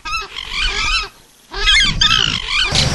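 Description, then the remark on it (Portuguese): Loud, harsh honking calls from geese or similar wild birds in the Iberá wetlands, in two overlapping bursts separated by a short pause, raucous with no talking. “Existem cerca de 400 espécies de aves por aqui. Além de ser deslumbrante de ver, é delicioso de ouvir.”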